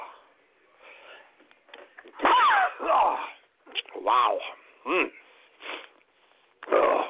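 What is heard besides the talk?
sneeze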